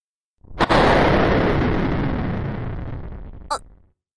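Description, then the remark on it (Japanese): A sharp crack of thunder bursts out, followed by a loud, broad rumble that rolls on for about three seconds, with a second brief crackle near the end before it cuts off; the thunderclap causes a power outage. “停電？今の雷かしら？最悪だわ。”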